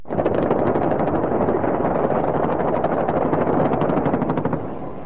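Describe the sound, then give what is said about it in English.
The loud, steady rotor of Israeli helicopter gunships firing on sites near Yasser Arafat's headquarters in Gaza City thrums continuously, its rapid chopping pulse filling the whole stretch before easing slightly at the very end. No one speaks. “Israeli helicopter gunships today fired on sites near the headquarters of Palestinian leader Yasser Arafat in Gaza City.”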